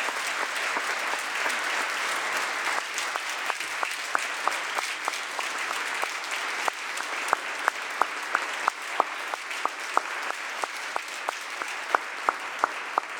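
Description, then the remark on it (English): Steady applause from an audience for Supreme Court Justice Chin on his impending retirement fills the whole stretch, a dense wash of clapping with sharper individual claps standing out toward the end, fairly loud and with no one speaking. “We can clap for that.”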